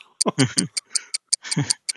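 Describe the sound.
Quick, steady clock ticking in a policeman's house, about five crisp ticks a second, runs under a voice speaking; the ticks are sharp and bright, each evenly spaced.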